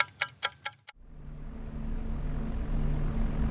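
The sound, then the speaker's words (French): Four quick sharp metallic clicks, then a steady, loud low drone of a Halifax bomber's propeller engines rumbling continuously, heard from inside the vibrating fuselage at night over Europe, with dense rushing wind noise over it, on a parachute-drop flight to Czechoslovak territory on 28 December 1941. “Dans la carlingue vibrante, où le bourdonnement des moteurs se mêle au grondement du vent contre le fuselage”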